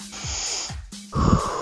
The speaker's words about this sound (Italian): Sembra una buona respirazione.